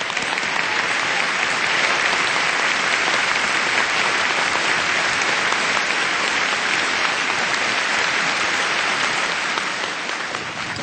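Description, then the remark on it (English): A crowd applauds steadily for about eleven seconds at an event in Cancun, thanking His Excellency for attending: a dense, even wash of many hands clapping at constant loudness that eases only slightly at the very end. “Please do one more thank you applause.”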